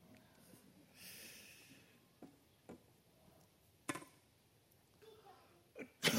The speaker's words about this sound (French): Je ne suis pas enrhumé, là. C'est ton bouquin là, qui me fait éternuer.